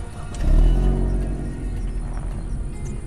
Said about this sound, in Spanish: En ese instante, se aparecieron los tacuacines en unos carros de último modelo.